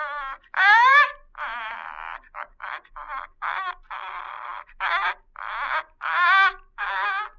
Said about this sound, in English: The bird was moving about in the cage now, nodding his head in a very peculiar manner, uttering the most extraordinary sounds. I began to realize he was imitating the thing he saw standing by his cage.